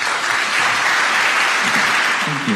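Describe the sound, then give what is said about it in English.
Steady, moderate, polite applause from geneticist colleagues from around the world at the International Summit on Human Genome Editing as He Jiankui walks onto the stage, a continuous even patter with no cheering, and a faint voice briefly emerging underneath near the end. “When He Jiankui walked onto the stage at the International Summit on Human Genome Editing last year, his geneticist colleagues from around the world clapped politely.”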